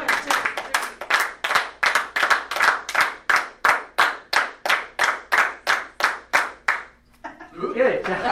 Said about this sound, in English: Okay. 19. Oh boy, I hope it's not a hard one. We've already done jumping jacks. Clap 19 times.